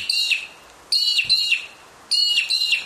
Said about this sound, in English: we're having another bird. This is now mudlarks, which are up here. There's a... let's see... yes, this is a male and female.